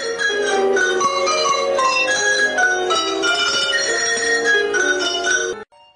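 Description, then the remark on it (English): Tuned cowbells, rung by a musician moving along an 8-foot-long table, ring out a quick, lively melody, many metallic strikes in steady succession with bright, overlapping tones, played loud and alone for about six seconds before stopping. “Ringing cowbells is hard work.”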